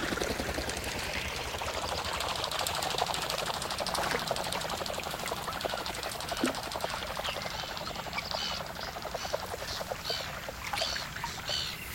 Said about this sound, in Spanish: Una focha se aleja a la carrera sobre el agua.